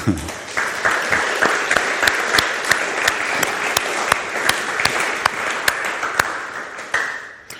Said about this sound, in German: Auch dir einen Applaus.